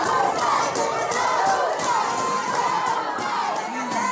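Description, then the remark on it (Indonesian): A large, agitated crowd of local residents shouts continuously while trying to force their way into the Pantai Labu sub-district office hall, where Rohingya people were temporarily placed; many voices yell over one another in a loud, unbroken roar with rising cries and no pauses. “Emosi masyarakat pun tak terbendung. Masyarakat mencoba memaksa masuk ke dalam aula kantor camat Pantai Labu yang menjadi lokasi penempatan sementara orang-orang Rohingya tersebut.”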